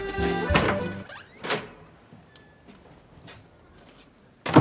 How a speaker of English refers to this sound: In an alley, the writer opens a door with peeling paint. A number on the building reads 46.